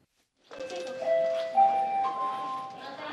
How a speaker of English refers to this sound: Okay, guys. That's the bell. It's a couple weeks into a brand new school year at Lawrence North High School in Indianapolis.